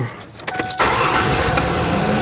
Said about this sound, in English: All right, well, engine's running. We'll go over here by it and see if we hear the squealing sound. No, I don't hear the squealing anymore.